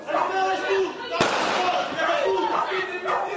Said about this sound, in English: This is a video of a recent police raid in Cova de Moura, filmed by a local resident. In the early hours of the morning, police with shotguns and wearing balaclavas can be seen walking through the streets and heard firing rubber bullets.